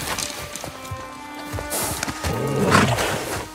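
In a video game, a deer that Atreus finds moves with quick, clopping hoofsteps and lets out a couple of short, strained calls, set against a dense game soundscape with no talking.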